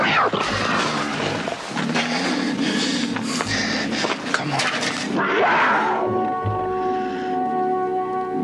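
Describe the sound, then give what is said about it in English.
A large wild cat growls and snarls in rough, rumbling bursts, with a man's brief words heard over it before a steadier tone takes over near the end. “Nice kitty. Careful, sir. That's no house pet.”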